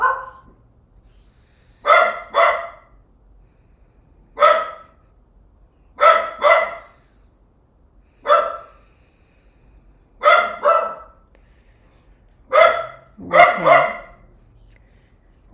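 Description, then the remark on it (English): A dog named Roxy barks repeatedly in short bursts, often in quick pairs, with pauses between them. There's no talking, just a quiet background. “That's Roxy barking in the background.”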